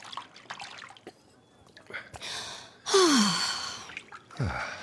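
Milk sloshes and splashes in a bath in a couple of broad, swishing surges, alongside a breathy gasp and falling sigh from a person.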